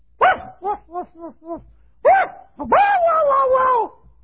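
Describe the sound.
A voice imitates a dog barking: a rapid run of five short yaps, a pause, then one sharp bark and a long, drawn-out howling yowl, loud with no other talk.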